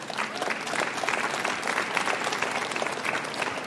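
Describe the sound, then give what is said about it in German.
Sustained applause from a crowd, a dense steady patter of many hands clapping at even loudness for several seconds, with no voices standing out. “Ich finde, das ist ja ein Applaus wert, dass sie es trotzdem geschafft haben.”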